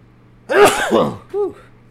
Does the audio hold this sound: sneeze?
yes